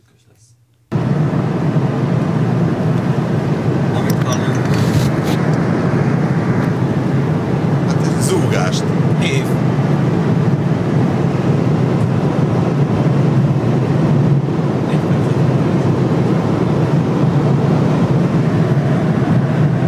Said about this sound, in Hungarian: Kérlek szépen, amit hallottunk, az egy Lexus LS600 HL 260 km/h sebesség mellett. Nyílen megy a Lexus a német autóbánon. Ezt hallani belülről. Elég zajos.